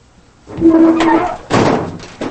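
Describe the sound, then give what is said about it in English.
Heavy truck back doors swing shut as a man closes them: a grinding, creaking scrape followed by a loud metallic slam, then a brief softer clunk as the second door latches. “Later, Billy closes the back doors of the truck.”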